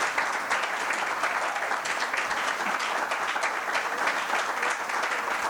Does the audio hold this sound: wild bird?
no